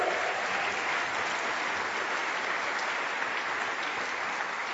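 A crowd applauds steadily for several seconds for volunteers, a dense wash of clapping hands that holds an even level throughout with no voices rising above it.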